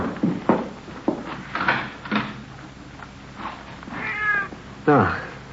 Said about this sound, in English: It's just a cat out in the street, you know, on the side alley maybe, huh? Mm-hmm. Probably not even in the house.